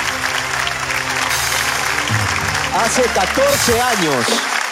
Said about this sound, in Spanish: Un fuerte aplauso